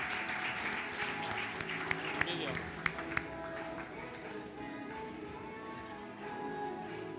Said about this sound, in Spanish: Queremos dar un fuerte aplauso a nuestros kids que se van a ir a sus clases. Que tengan un buen tiempo, chicos.